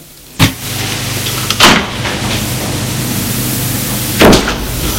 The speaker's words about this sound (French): Furieux, Constant ouvre la porte.